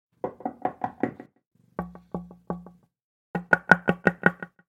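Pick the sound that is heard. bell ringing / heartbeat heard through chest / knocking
knocking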